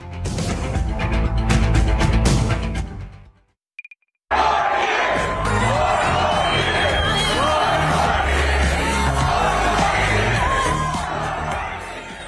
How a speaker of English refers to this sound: You're hearing the crowd chant at President Biden on Friday at the Democratic National Committee's annual winter meeting in Philadelphia ahead of tomorrow night's State of the Union address.